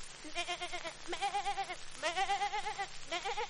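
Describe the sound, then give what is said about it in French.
A voice imitates a goat, letting out four quavering, vibrato-laden bleats in quick succession, fairly loud, with no other sounds around them. “Une chèvre qui porte ses cornes elle-même.”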